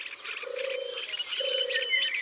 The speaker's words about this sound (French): On entend une tourterelle des bois maintenant. Ce roucoulement très doux, presque un ronronnement.